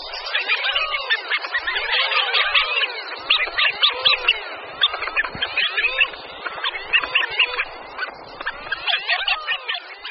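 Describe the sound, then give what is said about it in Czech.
Male common pochards give soft courtship whistles, a dense run of overlapping calls going on without pause, fairly steady in loudness, with no voices. “Samci se kromě toho v toku ozývají i tichými hvězdy.”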